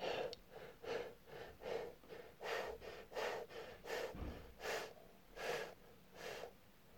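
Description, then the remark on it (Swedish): A voice imitates a very small dog panting: quick, breathy huffs repeating about twice per second in a steady rhythm, fairly loud, with no words spoken. “Sedan la han sig helt utpumpad på rygg och flämtade som en väldigt litet hund som råkade ligga på rygg.”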